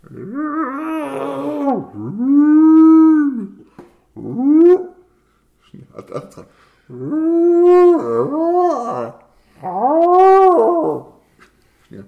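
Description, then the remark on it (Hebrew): A human voice imitates whale calls, telling a joke about two drunk whales in a bar, with four or five long, moaning wails that swoop up and down, loud, separated by short pauses and a few quick spoken words. “לוויתן אחד אמר ללוויתן השני.”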